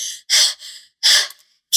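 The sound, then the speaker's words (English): Heavy, winded panting with loud, breathy gasps and exhales in a quick, uneven rhythm, from someone out of breath after running down the street. No speech. “So you eventually get in and you catch up to Thea as she is winded and out of breath running down the street.”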